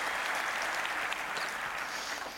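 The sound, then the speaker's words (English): Steady applause from a crowd, a dense, continuous patter of many hands clapping at even loudness throughout, with no voices standing out. “And general applause here.”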